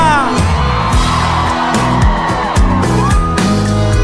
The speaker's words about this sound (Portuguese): Eu quero ouvir o grito da mulherada solteira aqui em Goiânia.